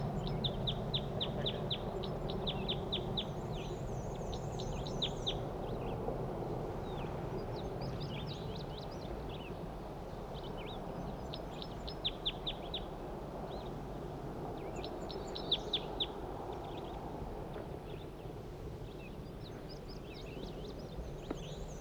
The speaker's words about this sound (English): That was a wild bird. Male.